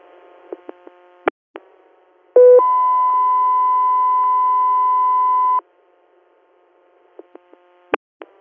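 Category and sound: signal or alarm, radio dispatch alert tones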